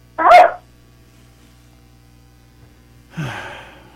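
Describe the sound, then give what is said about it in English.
A dog barks twice during a call to the Swap Shop call-in show, with a sharp, short first bark and a second, longer, rougher one about three seconds later, heard faintly over a phone line with a low hum underneath. “You said Mickey Mouse and barked?”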